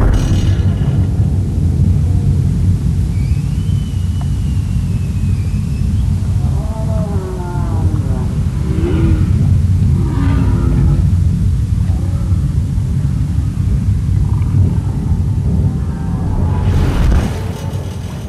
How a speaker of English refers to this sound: The National Park Service regulates how many cruise ships can come in and out of the bay and how close they can get to the whales. But still, the humpbacks that are there in the summer have to live alongside roaring boat engines.